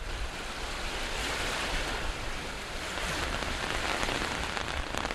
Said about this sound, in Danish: Det regner, og det blæser, og det er bare gråt denne efterårsdag ved Aarhus Bugt.